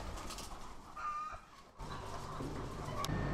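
Hens cluck and murmur steadily in an enclosed coop, a dense overlapping chorus of short calls with no one talking.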